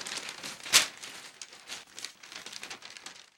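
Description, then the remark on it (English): Paper crinkles and rustles in a steady run of dry crackles, with one sharp, louder crackle early on as a sheet is folded and pressed. “A piece of paper cannot be folded more than 9 times. Try it!”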